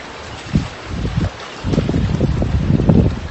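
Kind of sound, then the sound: nature, wind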